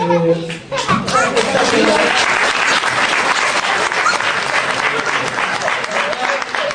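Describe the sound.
An audience breaks into loud, sustained applause, a dense crackle of many hands clapping that holds steady for several seconds after a brief bit of voice at the start.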